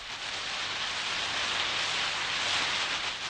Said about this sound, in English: It's going to rain. Going to. The future. It's going to rain. Listen. It's raining.